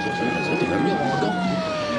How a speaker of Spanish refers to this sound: ¡Mira! ¡Mira, Calimán! ¡Una ambulancia!